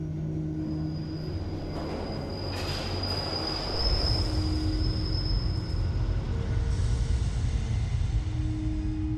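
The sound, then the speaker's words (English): A London Underground tube train rumbles past, its wheels letting out a sustained high-pitched squeal as the heavy, rattling roar swells louder midway and carries on steadily to the end. “These murders had been committed at random on the London Underground by pushing complete strangers in front of tube trains.”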